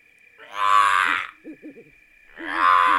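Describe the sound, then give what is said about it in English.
Two loud, harsh, rasping screeches from a screech owl, with a quick run of three short hooting notes between them and a thin steady tone underneath. “Screech owl.”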